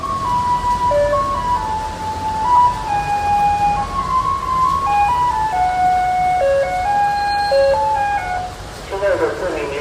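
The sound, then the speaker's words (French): A Taiwanese garbage truck's electronic jingle plays a simple, steady melody of bright, beeping notes, fairly loud, over a constant rumble of street and traffic noise in Taiwan. “C'est parti pour la cloche des camions poubelles taïwanais.”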